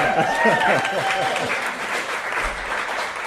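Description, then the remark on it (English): An audience in Ballard, Seattle bursts into steady, loud applause that fills the whole clip. Some cheering or voices rise over the clapping at the start, then the dense clapping carries on evenly. “Now, applaud for them. Let's hear it.”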